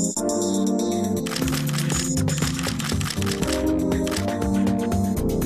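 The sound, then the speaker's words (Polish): Camera shutter clicks snap repeatedly over a loud, dense music bed, sharp and recurring throughout a short jingle for the photography programme Migawka, with no voices. “Migawka. Magazyn o fotografii.”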